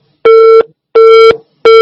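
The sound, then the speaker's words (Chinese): A loud telephone busy signal after a call drops, repeating in steady on-off pulses, each tone lasting about a third of a second with equal gaps, heard alone with no voices. “稍等一下，我们再把电话重新接通。”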